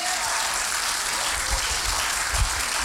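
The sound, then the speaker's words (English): A church audience claps together during praise, a dense, steady wash of many hands with a bright crackling texture that holds at an even, fairly loud level throughout, with a couple of low thumps underneath. “Come on, clap your hands.”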